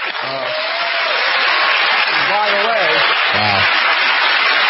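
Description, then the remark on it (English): A crowd in Baltimore cheers loudly and steadily for a few seconds after an answer on vaccine mandates, a dense roar of many voices with a few individual shouts rising above it. “And they cheer, the fake crowd.”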